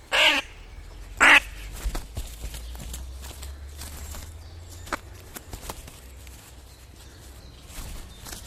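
A crow gives two loud, harsh caws close by, followed by soft, scattered rustling and flapping of its wings over a faint low rumble.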